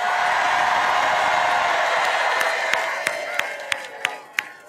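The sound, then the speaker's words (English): A large crowd in Wisconsin cheers and applauds for Tim Walz on a warm 78-degree afternoon in a dense, roaring wash of sound that gradually fades, leaving a few scattered sharp claps and shouts near the end. “Can we hear it for Tim Walz?”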